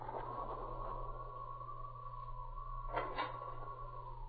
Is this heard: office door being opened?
yes